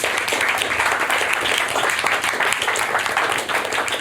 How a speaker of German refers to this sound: Dafür haben wir einen ganz spannenden Sprecher auf der Bühne. Bitte begrüßt mit einem ganz, ganz großen Applaus